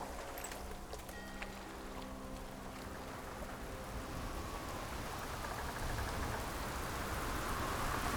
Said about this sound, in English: A storm beset us, and our attentions were focused on our craft.